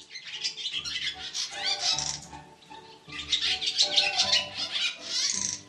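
Barn swallow twittering: a busy, continuous stream of rapid chirps, warbles and dry rattling notes, briefly easing around the midpoint before resuming just as loud and lively.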